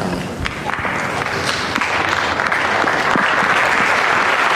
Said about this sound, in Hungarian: Bár a hatodik pálterem nincsen zsúfolásig megtelve, mégis hangos tapsal köszönik meg a mai napon is a Szent Atyának az áldását és a tanítását.